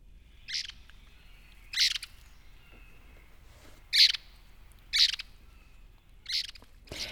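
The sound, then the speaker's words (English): An eastern wood pewee gives a series of six short, high-pitched call notes spaced about a second apart, clear, with only faint background hiss and no talking. “And here is another much different vocalization from the eastern wood peewee.”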